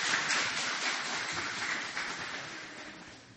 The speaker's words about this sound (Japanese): どうぞ拍手を持って歓迎ください。